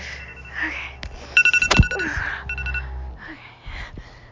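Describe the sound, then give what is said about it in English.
An electronic timer alarm beeps in rapid, high-pitched pulses, sounding in two short bursts against a low background hum. “Oh, look, the timer.”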